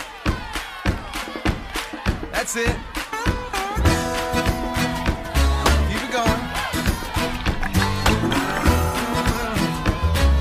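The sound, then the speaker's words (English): A group of children clap their hands and stomp their feet together at an adult's prompting before a group song, in a steady, lively rhythm, with sustained musical tones joining partway through and the adult briefly speaking over them. “You guys stomp your feet like that? And let's clap together.”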